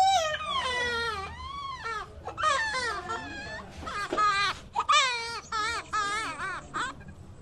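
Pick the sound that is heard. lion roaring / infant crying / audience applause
infant crying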